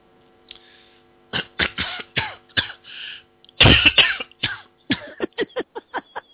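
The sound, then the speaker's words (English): A person coughs repeatedly, starting with a few harsh, separated coughs, then one heavy fit, followed by a rapid string of short, sharp coughs. No talking. “I'm sorry, I'm not laughing at the fact that you're coughing.”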